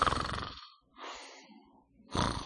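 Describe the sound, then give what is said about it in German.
A voice imitates how a youth-group member who fell asleep at 3:30 during a prayer night snored and prayed at once: two loud, rasping, rumbling snorts separated by a softer, breathy inhale, forming a slow in-and-out rhythm. “Er hat geschnarcht und gebetet. Und das hörte sich dann so an, in seiner Ecke.”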